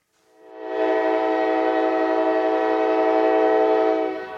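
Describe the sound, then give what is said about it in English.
A BNSF freight train snaking through a rail junction in Kansas City, United States, sounds one long, loud horn blast that swells in, holds steady for several seconds, then starts to fade, with a low rumble of the train beneath it and no voices. “On a normal day, about 7,000 freight trains, like this BNSF train snaking through a rail junction in Kansas City, crisscross the United States, carrying most of the stuff that makes the economy work.”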